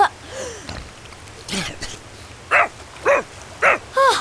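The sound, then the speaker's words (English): A dog named Doggo, coming out of the water, gives a few soft whines and yelps, then four short, sharp, evenly spaced barks in quick succession, loud and bright with no one talking. “Doggo! You made it!”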